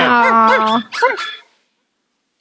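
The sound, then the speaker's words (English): A person imitates a dog's bark with their voice: a drawn-out, wavering yelp followed by two short, higher bark-like bursts, loud, then quiet. “I always say it sounds like they're barking. So you could literally just go.”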